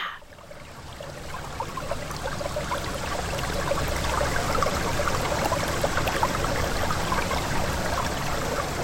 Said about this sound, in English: I do have a low-key thing going with trees and moss and the wind and water running over rocks. Should I cue that sound here, by the way?